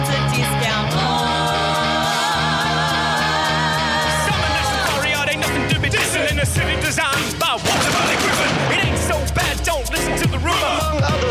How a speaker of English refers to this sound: But take me to a place where there's fireworks.